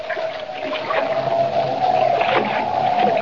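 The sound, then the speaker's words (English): Steady wind rushing over choppy, sloshing water around a small catboat making the short run from Margate Breakwater to Lighthouse Point on the rock-bound coast of Maine, in a freshening wind in the dark, with a thin whistling tone running continuously through the noise and no voices. “Boarding Jimmy's small catboat, Kent embarks on the short run to Lighthouse Point over choppy water and in a freshening wind.”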